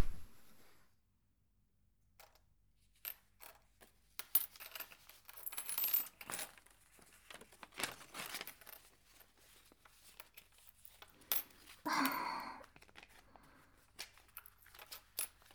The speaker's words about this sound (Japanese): もう、小銭は私が数えるから。ほら、店長はお札。